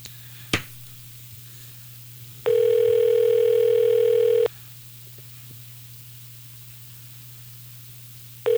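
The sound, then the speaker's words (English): A phone line rings back as a radio host calls a listener: a click, a low steady hum, then a loud two-second electronic ring tone, a long quiet pause, and the next ring just starting at the end. No one speaks. “Uh-oh, three rings.”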